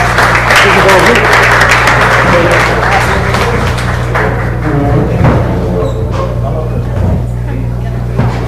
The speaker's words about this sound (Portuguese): Muito obrigado. Mais uma vez, nossa salva de palmas para vocês.